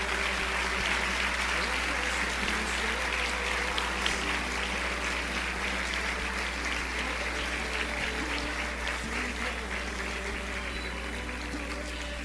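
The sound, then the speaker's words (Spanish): Sustained applause from a large crowd welcoming a conference speaker, a dense steady wash of clapping that stays loud and even for several seconds, with faint murmuring beneath it. “Yo quisiera que la recibiésemos con un fuerte aplauso.”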